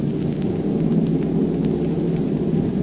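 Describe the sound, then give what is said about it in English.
Bombs released from a plane's open bomb bay explode: a heavy, continuous low rumble with a steady roar and no clear separate blasts, loud throughout and with no voices. “Pilot to crew, I'm releasing bombs.”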